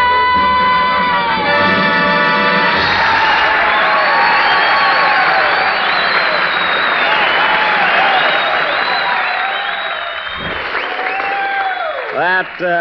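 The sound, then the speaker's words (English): Loud, sustained audience applause and cheering for a guest singer, with whoops and whistles rising over a dense wash of clapping; a held musical note fades out at the start as the ovation carries on. “She got more applause than I did.”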